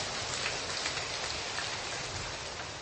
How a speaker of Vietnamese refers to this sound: Rồi chúng ta cho một tràng pháo tay hơn người chị em này.